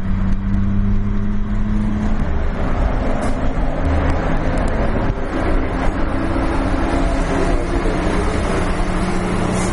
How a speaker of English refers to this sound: As you can hear, it's become a little bit quiet. We're going out of the city, into the suburbs, back into my neighborhood. There's so many trucks on the road.